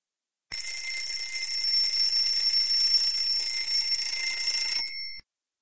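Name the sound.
alarm clock ringing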